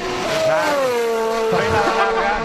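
The engine of the new Mercedes Formula 1 race car revs loudly and steadily, its high whining tone sliding slightly downward and then wavering as the throttle shifts, continuous for the whole moment.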